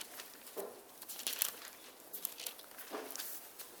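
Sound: bible pages being turned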